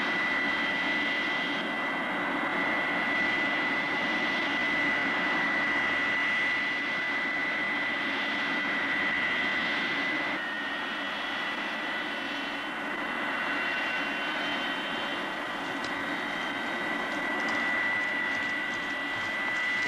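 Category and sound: vehicle, jet airliner landing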